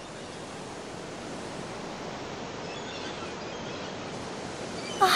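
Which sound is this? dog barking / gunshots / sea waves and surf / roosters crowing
sea waves and surf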